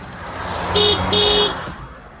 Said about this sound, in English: Hey. I'm going to give you two honks for your birthday.